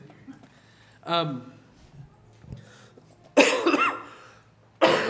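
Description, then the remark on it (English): A person at a church service coughs: a short throaty vocal sound, then two harsh, loud bursts a couple of seconds apart, with quiet room noise between them. “I don't want to cough into that.”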